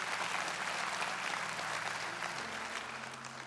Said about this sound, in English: And maybe right now, hey, if you're going to clap, just commit. All right, there we go.